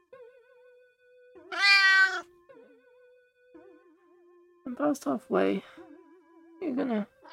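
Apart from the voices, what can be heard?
cat meowing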